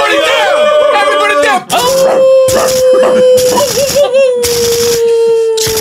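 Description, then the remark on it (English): Voices imitate dogs, with a long, wavering howl running through the whole stretch, whimpering yelps layered on top and breathy bursts breaking in between. It sounds loud. “Shoot those dogs!”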